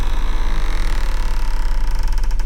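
A house door, unlocked with keys at 8 at night, creaks open slowly, a drawn-out groan over a low rumble, ending with a quick run of faint rattling ticks as it finishes swinging.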